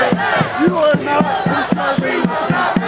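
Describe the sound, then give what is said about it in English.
A crowd of protesting students, linking arms against police officers, chants and screams in unison, a loud rhythmic rising-and-falling chorus of many voices repeating "We will not bow, we will not bend" with sharp shouted accents. “And if you can hear them, they're screaming, "We will not bow, we will not bend."”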